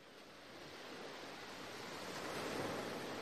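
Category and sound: nature, ocean waves and surf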